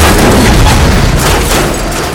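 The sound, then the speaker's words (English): A loud explosion blast whose force shatters the control rudders of two MS-18 choppers, with a dense, rumbling roar that stays heavy throughout and a few sharper bursts flaring up inside it before it eases slightly toward the end. “Both choppers veered wildly, first away from each other, their control rudders shattered by the force of the blast, and then toward each other, two pendulums of steel death.”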